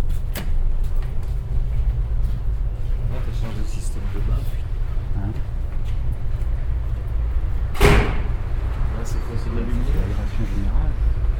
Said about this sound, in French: Alors par contre ces portes-là, je ne trouve pas génial.